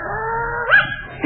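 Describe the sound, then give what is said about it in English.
A dog named Slewfoot whines in a long, drawn-out whimper, then lets out a sharp rising yelp and starts another short cry at the end, fairly loud with no talking. “what a lovely dog”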